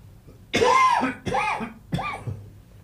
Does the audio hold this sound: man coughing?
yes